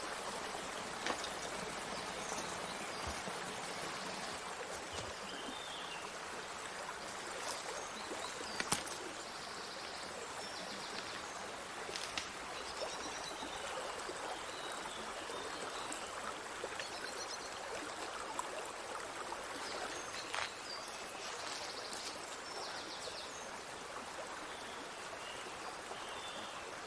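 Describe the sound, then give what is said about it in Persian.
A steady stream of water flowing and trickling continuously along a river in a forest, with faint bird chirps scattered in the background and no voices. “جنگل. ریچارد گرانت کنار رودخونه میشینه.”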